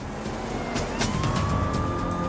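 car driving on highway

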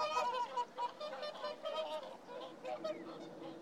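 swans honking

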